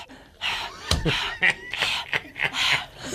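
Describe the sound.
A person imitates a dog panting, making a quick run of loud, breathy huffs in an uneven rhythm, with no other voices or sounds.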